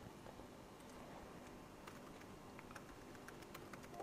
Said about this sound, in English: So I'm typing away. This is very confidential. Happy with that. I'll go and save that now.